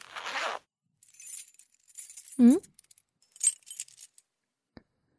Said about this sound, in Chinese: 怎么是从包里拿出来？我就说，你不该不把钥匙带在身上吗？